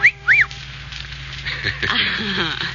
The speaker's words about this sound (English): Well, then you should have made the whistle shorter, like this.